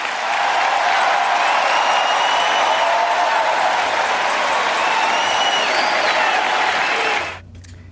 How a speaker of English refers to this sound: The cheers are going to get louder.